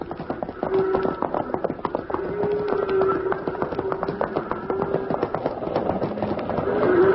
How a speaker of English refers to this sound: Too late, Hoppy. They're stampeded. And they're moving this way, fast.